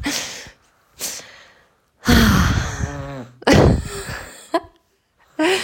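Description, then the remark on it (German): A little baby boy in a baby carrier snores in uneven, snuffly breaths, some with a rough grunting tone, separated by short quiet gaps. No one speaks. “Wahrscheinlich hört ihr jetzt gerade das Schnarchen von dem Kleinen.”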